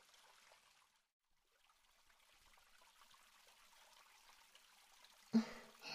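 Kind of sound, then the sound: household object, water trickling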